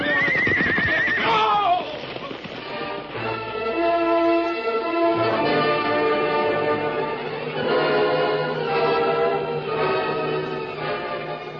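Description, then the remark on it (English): A horse lets out a loud, wavering whinny near the start, followed by a long stretch of steady, sustained tones; no one speaks. A white stallion and a paint horse carry their riders along the floor of Rainbow Valley. “A few moments later, a powerful white stallion and a paint carried their riders along the floor of Rainbow Valley.”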